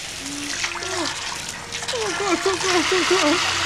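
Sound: water gushing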